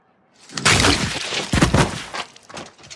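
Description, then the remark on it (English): The Mountain smashing a man's head against a wall: two loud crunching impacts with crackling, shattering debris, then a few fainter crumbling thuds trailing off. “Can we hear the mountain's head smashing against the wall of the peeing guy?”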